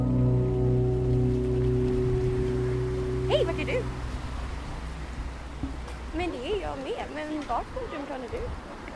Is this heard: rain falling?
yes